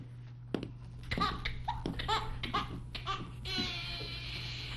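A baby cries in short, choppy sobbing bursts that stretch into a longer, sustained wail near the end, over a steady low background hum.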